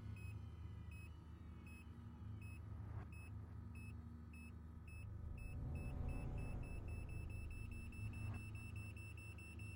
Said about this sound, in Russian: Что аппарат пищит.